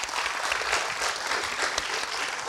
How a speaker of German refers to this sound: Ja. Das ist korrekt. Es ist Fright Night. Einmal Applaus bitte.